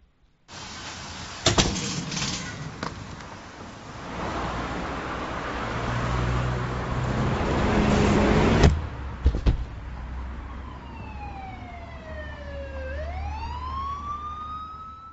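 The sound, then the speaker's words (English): Busy road traffic rumbles, broken by the sharp crashing impact of a bus crash, then loud noise cuts off and a siren wails in long falling and rising sweeps. No one speaks. “If the universe were just electrons and selfish genes, meaningless tragedies like the crashing of the bus are exactly what we should expect, along with equally meaningless good fortune.”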